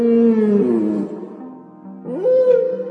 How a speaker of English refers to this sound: During mating season, some whales sing the same songs over and over until they find that special someone. How romantic. Hey, let's give a listen to Sperm Whale Serenade.